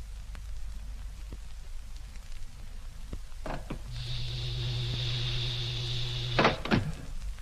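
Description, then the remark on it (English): A spaceship's main door slides open with a steady, humming motor whine lasting a couple of seconds, framed by a clunk at the start and heavy thuds as it stops, over a constant hissing background. “Well, let's open the main door and get inside.”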